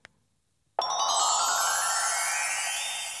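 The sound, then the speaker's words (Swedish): After a short click and a moment of silence, an incoming call signal on the Swedish radio show Karlavagnen comes in: a bright, sustained electronic ringing tone, fairly loud and steady, with no one talking over it. “Nu tror jag att vi har ett samtal på väg in.”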